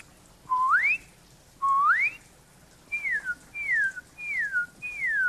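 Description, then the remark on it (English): A person whistles an imitation of the song of cardinals, the red birds: two loud rising slurred whistles, then four shorter falling whistles in a steady series, clear and tonal with no talking. “This is what I think cardinals, those red birds that you see, that's what they sound like.”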